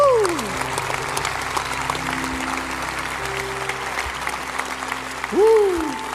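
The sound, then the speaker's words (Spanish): A church audience applauds steadily for several seconds, a dense, even clatter of many hands, with a brief swooping vocal tone at the start and another near the end. “Ay, hermano, aplaude.”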